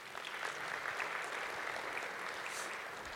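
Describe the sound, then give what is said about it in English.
A crowd applauds steadily for a few seconds after a demonstration of real-time XAML editing, a dense, even wash of many hands clapping at moderate volume with no talking over it. “I love taking applause for showing a feature that other teams work so hard on.”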